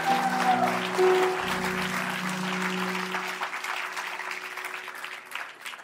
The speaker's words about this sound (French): Est-ce qu'on peut applaudir nos groupes, s'il vous plaît?